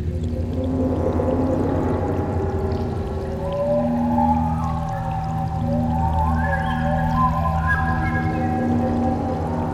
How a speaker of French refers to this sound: fait circuler de l'air chaud et produit ainsi des signaux sonores qui évoquent étrangement le cri de certains animaux, réels ou imaginaires, tel le hurlement des loups, le chant des sirènes ou le rugissement des dragons.